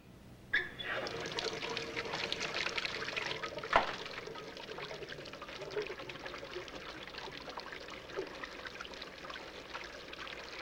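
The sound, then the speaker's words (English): A woman pours water into a basin in a bathroom, a steady, continuous splashing stream that starts abruptly and runs throughout, with a brief sharper splash partway through. “In the bathroom now, she pours water into the basin and loosens her hair.”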